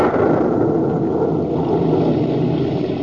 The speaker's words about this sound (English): The rumble you hear is not of the volcano. It is thunder.